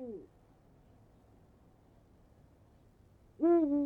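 An owl or eagle owl hoots twice: a brief fading call at the start, then after a quiet pause a louder hoot with rich harmonics near the end, against a faint background hiss.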